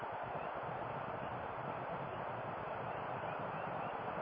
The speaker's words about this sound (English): Hear the frogs? Yeah, and the snails. Everybody's trying to get dry. Everybody's coming towards the house, you know? It's an awesome thing to be in the jungle when it's raining like this and when Mother Earth opens up, she's opening up.